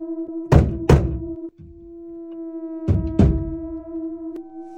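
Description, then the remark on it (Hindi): Heavy knocks on a door at night, two quick pairs separated by a pause, loud, with a steady electrical hum droning underneath throughout. “बाहर दरवाजे पर कोई है?”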